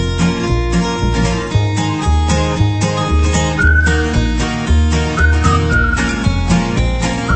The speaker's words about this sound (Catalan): Sí, que sentia aquests xiulets.